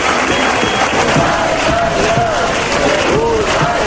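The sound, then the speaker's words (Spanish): A loud, dense crowd of fans in Bermeo chants "bye, bye, bye, Urdaibai" and shouts together in a steady roar, with rising and falling voiced tones running through the continuous wall of cheering. “Bueno, pues ahí están esos gritos de bye, bye, bye, Urdaibai, de la afición en bermeotarra.”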